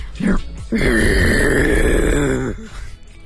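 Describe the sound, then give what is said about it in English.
A person imitates a walrus with one long, deep, gravelly groan lasting nearly two seconds, rough and throaty, after a brief vocal lead-in, then trailing off into faint breathy sounds. “It could be a walrus deep, with a sore throat. That like deep throat sort of gutsy sound that the walrus has.”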